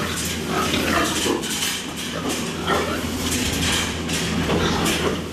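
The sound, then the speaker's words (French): A dense, continuous din of many pigs grunting and squealing together, loud throughout, with a steady low hum of barn noise underneath, on a pig farm raising 5000 pigs across from an ethanol plant. “Juste en face de l'usine Corn Plus se trouve l'exploitation de Doc Jenkins. Il élève 5000 porcs”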